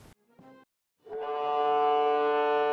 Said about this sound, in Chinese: 随后，检阅舰鸣笛起航，在护卫舰艇拱卫下向阅兵海域进发。